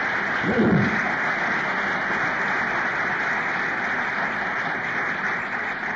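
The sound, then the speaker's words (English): Steady, dense applause from the audience at an Alcoholics Anonymous talk fills the whole six seconds, a continuous wash of many hands clapping at an even, fairly loud level with no voices over it. “And that applause is for all of us who are sitting here today sober.”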